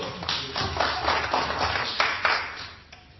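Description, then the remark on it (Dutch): Audience applause at an evening show, a dense wash of many hands clapping with a loose, pulsing rhythm at a moderate level, tapering off slightly toward the end. No one speaks. “Dan geven ze een hartelijk applaus.”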